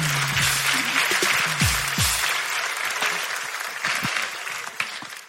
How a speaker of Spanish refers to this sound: Un aplauso para ti. Muchas gracias.